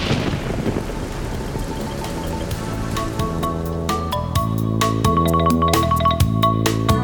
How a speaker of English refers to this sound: He's ready to bring peace to your mind when the winds blow, the rain falls, and the thunder rumbles in the darkness.